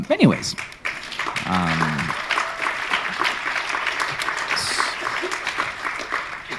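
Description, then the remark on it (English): An audience applauds steadily, a dense wash of many hands clapping at a fairly loud level, with a brief voice rising at the start and some murmured vocal sounds mixed in. “And I appreciate the applause, but it's also about, like, what are we doing, though?”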